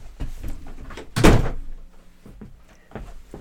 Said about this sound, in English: Because I have to close the door because Fran's got the TV on in the other room.